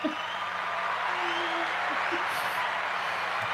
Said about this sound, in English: There's a live audience here, not where you are. You're remote. I love it. Yeah, live audience. They're cheering. They're screaming. They got signs. They're doing the wave. It's unbelievable.